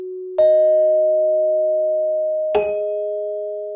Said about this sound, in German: Die einzelnen Töne, die dabei entstehen, sind so Glockenklänge. Die markieren immer, wenn ein Eintrag hinzukommt.